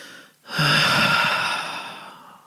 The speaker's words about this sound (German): Wir atmen ein und wir atmen aus. Atme ein und wir sind alleine, nur du und ich, und wir atmen ganz herzhaft aus.